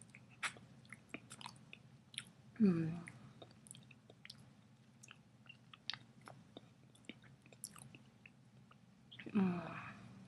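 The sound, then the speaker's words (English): Wet oral slurping and licking sounds: scattered soft smacks and licking clicks throughout, with two louder slurping bursts carrying a brief voiced murmur, one early and one near the end. “I'm gonna slurp your cum off of your dick.”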